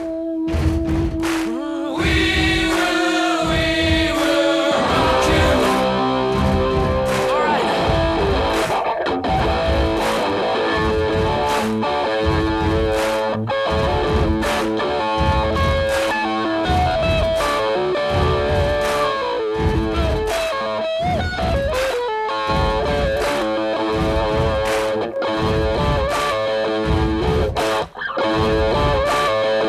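A loud rock song recording plays throughout on a radio show's playlist, with distorted electric guitar lines over steady, pounding drum hits and dense sustained chords, no voices talking over it.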